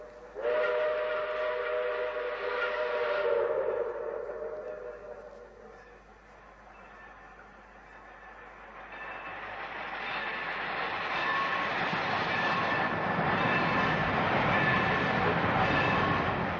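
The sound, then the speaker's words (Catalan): A train whistle sounds for several seconds, then the rumble of a train passing through without stopping builds and roars steadily, loud, with a few high squeals, and no one speaking. “No sé si ve o se'n va. No, passa de llarg.”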